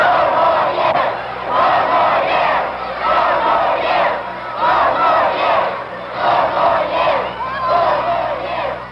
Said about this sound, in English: When the president arrived at the hotel where he was supposed to speak, he was met by a group of anti-war demonstrators. They engaged in a shouting match with the president's supporters.